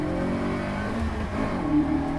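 A loud rally car engine, an AX of nearly 200 horsepower weighing 850 kg, revs steadily on a super special stage at the Rallye de Bretagne in Plouay, its strained harmonic drone rising and falling slightly over a couple of seconds, with no talking.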